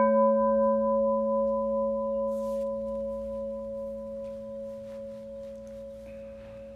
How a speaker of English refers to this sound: I will ring the bell to start, and I will ring the bell to finish.